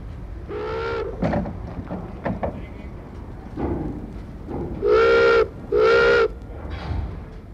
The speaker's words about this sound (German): Dann heult die Sirene auf und langsam verlässt unser Schiff den Hafen von Suez.